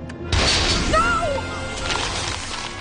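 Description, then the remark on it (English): A sharp blast from a freeze gun erupts into a loud, sustained shattering crash as dinosaur bones break apart, brittle fragments clattering and tinkling for a few seconds as the noise slowly thins out. “shoots the dinosaur bones with his freeze gun, shattering them and breaking them.”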